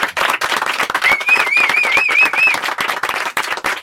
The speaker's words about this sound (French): Elle part de ce 7-9 sous nos applaudissements.